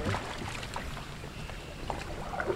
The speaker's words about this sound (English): We're launching. Get a good footing, then we'll just scooch the bow right in the water.